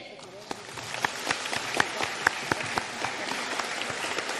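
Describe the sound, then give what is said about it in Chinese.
A crowd applauds steadily, with dense overlapping claps forming a continuous wash and a few sharper, louder claps standing out. The applause holds at an even level throughout, welcoming Director Lu Junhong to give a talk. “现在让我们用最热烈的掌声恭请尊敬的卢军红台长为我们慈悲开示。”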